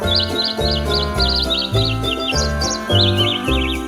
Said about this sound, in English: Now that your holiday shopping list is figured out, enjoy this bird singing jingle bells.